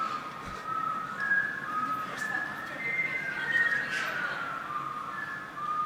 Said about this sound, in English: So, I don't know, maybe we wait a little and whistle the Jeopardy melody or something?